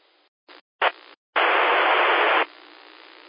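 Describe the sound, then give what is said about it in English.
Radio static bursts in and cuts out several times on a 2-meter amateur radio repeater during the Blue Ridge 2-meter net: brief crackly chunks, then a loud sustained hiss of white noise, as a weak station barely opens the repeater's squelch with no clear voice or audio. “Okay, I did hear one station that was just breaking the white noise.”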